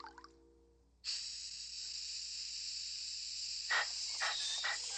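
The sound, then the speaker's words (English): A steam locomotive lets out a sudden, loud, steady hiss of steam, then a few rhythmic chuffs break through near the end as it starts to move off. “Now, this, for instance, is a steam locomotive.”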